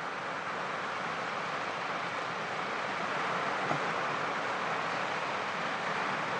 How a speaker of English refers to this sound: So to expect rain on the last night, well, we can't really grumble. But wow, come on, that is some rain.